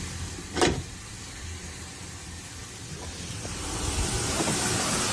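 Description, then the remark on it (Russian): A steady, broad rush of hissing steam and flowing water fills an apartment building stairwell in Klimovsk, Podolsk, Moscow region, growing slightly louder toward the end, with a brief sharp burst near the start and no voices. “8 утра, у нас за дверью шумит, что-то течет.”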